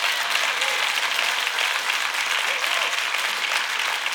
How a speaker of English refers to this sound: Now, if you're going to applaud, do it right or don't do it at all. Don't patty clap.